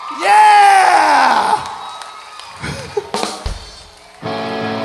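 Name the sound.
audience applause and cheering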